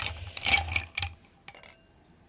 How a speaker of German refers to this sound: Und zwar empfehlen wir einfach, so wie wir es jetzt auch hier haben, einfach Weingläser. Dann kommen da, ich setze mal 1, 2, 3 Eiswürfel rein.